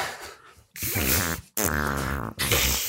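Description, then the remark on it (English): A voice blows loud, buzzy raspberry fart noises with the lips in a contest to keep making them continuously, three long sputtering bursts in a row separated by brief gaps, with no talking. “We just have to make fart sounds continuously, and the first person to stop loses.”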